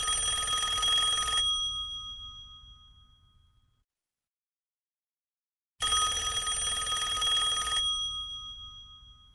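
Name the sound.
telephone ringing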